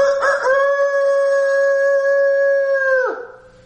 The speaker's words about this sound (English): But there was no rooster like this rooster on that day that crowed when he denied the Lord 3 times.